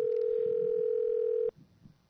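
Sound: telephone being dialed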